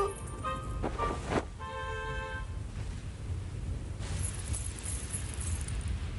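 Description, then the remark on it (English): Metallic jingling and clinking, like a handful of gold coins shaken together, rings out in a few bright bursts over the first couple of seconds against a low, steady background rumble. “Half of the gold coins are for the king's treasury.”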